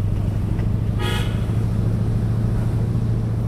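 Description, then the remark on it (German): A 1972 Chevrolet seven-seater with a 3.5-liter, eight-cylinder engine drives along with a steady, low engine rumble, and a brief horn toot sounds once about a second in. No voices. “Sein Chevrolet stamme aus dem Jahr 1972, ein Siebenplätzer mit 3,5 Liter Motor und 8 Zylindern, sagt er.”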